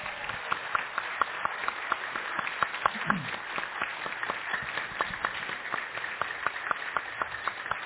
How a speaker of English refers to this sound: Those who love Jesus would say, can we give our missionaries a round of applause?